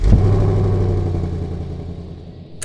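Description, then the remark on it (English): A car engine is started and roars, a loud low rumble that slowly settles and fades over a few seconds, with a faint click at the end. “got in the car, shut the door, and started the engine.”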